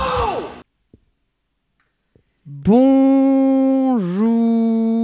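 A big, drawn-out yawn voiced loudly, a long sustained groan that dips in pitch near the end, following a brief breathy exhale and a couple of faint clicks in near silence.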